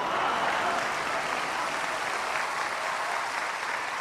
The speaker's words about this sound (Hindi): और शायद अगली पंक्ति पर फिर ज्यादा तालियां बजे